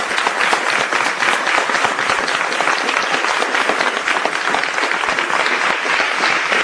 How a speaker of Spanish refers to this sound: Aplausos de nuevo de los compañeros de Tomás Gómez a las palabras de Maro Menéndez, advirtiendo en esas palabras de que llegarán a los tribunales si es necesario para defender los derechos de la militancia socialista